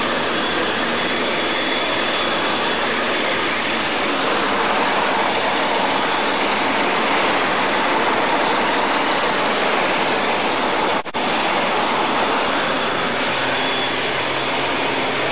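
A locomotive engine roars loudly and steadily as it builds power hauling a heavy train at about 11 miles an hour in West London, a dense continuous rumble with one brief break partway through and no voices.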